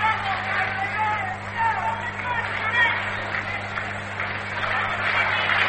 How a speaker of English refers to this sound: Well, you can hear the rhythmic applause from the Giant fans here at Candlestick Park. They want the Giants to get something going.